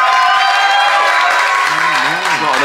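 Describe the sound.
A crowd applauds loudly and steadily throughout, the dense clapping mixed with whoops and cheers, and a single voice rises and falls above the noise near the end.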